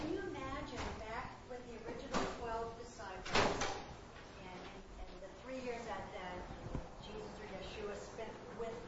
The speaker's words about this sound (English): Yeah, and do you think we could open up that door in the back, too? Is that possible? Just to let it breeze through.